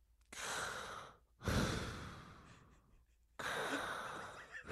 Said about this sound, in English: Can you hear me breathing like I'm James Gandolfini in a Sopranos scene?